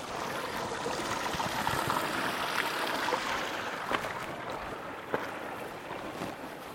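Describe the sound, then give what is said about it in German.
A small, playful brook to the right of a path babbles and trickles steadily, a continuous watery rush with a couple of faint splashes or clicks rising briefly above it, no voices present. “Als nächstes kommt rechts vom Weg so ein kleiner, verspielter Bach.”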